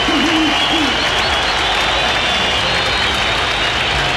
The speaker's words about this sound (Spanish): Aplauso para Rojas.